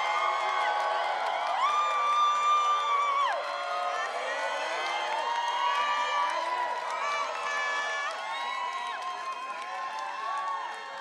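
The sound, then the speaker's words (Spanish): A large crowd at a music party in Bogotá cheers, whoops and applauds loudly and continuously, many overlapping voices rising and falling in shouts, with clapping mixed into the steady roar. “Un aplauso para …, fuerte, fuerte.”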